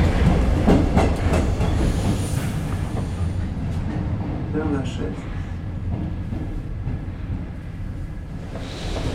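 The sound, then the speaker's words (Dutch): A Paris metro train, quite crowded, rumbles steadily through a tunnel, with loud low-frequency roar, rhythmic clacking of wheels on track and occasional metallic squeals, while voices murmur faintly inside the carriage. “We zijn op weg naar Père Lachaise en we zitten in de metro.”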